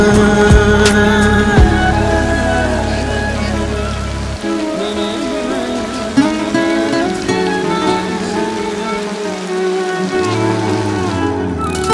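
Steady rain patters on a surface throughout, a dense, close hiss that never lets up, layered over sustained musical tones with no voices.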